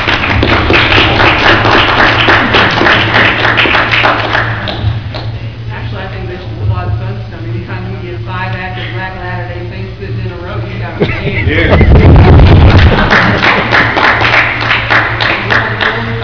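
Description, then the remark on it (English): An audience claps steadily in dense, loud applause at the end of a question session, as a moderator calls for a round of applause; it fades as a voice speaks briefly, then swells again into a strong round of clapping. “Round of applause by moderator.”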